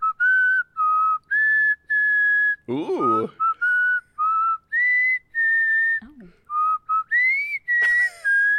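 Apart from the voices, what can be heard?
person whistling a tune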